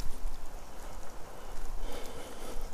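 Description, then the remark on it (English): Steady rain hisses outdoors during a walk in a continuous, even wash of noise, with scattered drops pattering and a slight swell in intensity toward the end. No one speaks. “Here's a little walk I took the other day in the rain.”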